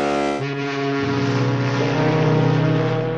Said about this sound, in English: Southern California traffic jams aren't just on the roads. Congestion can stretch out into the Pacific. Monster ships with big horns.